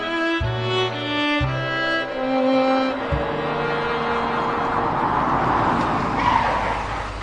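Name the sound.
car driving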